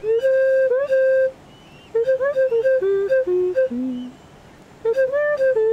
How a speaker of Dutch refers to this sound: Ja, het is een pygmeeënfluit. Hij is dus piepklein. Het is een piepklein fluitje. Maar hij brengt een prachtig geluid voor.